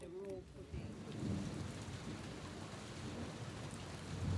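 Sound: thunderstorm with heavy rain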